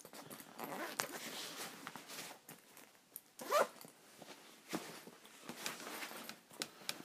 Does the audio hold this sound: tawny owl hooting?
no